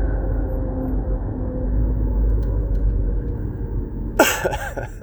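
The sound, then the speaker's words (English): Steady low engine rumble and road noise of a truck driving alongside on a road, keeping the driver from getting over into the other lane, with a brief sharp hiss or whoosh near the end. “I got this truck trying to hold me, keep me from getting over in the other lane.”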